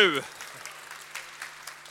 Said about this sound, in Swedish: Så, nu ska jag få nominerade på scen. Vi börjar med SBU. Och lite mer applåder. Kom igen, ja, SBU!